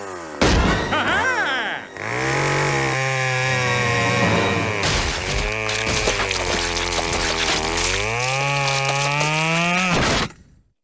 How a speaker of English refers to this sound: Unless, of course, it involves a drill, or hedge clippers, a 65cc gas-powered chainsaw, or an over-sharpened Swiss Army knife.